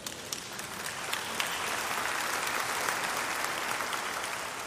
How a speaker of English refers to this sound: Now, if you're not a sinner, you didn't have to clap.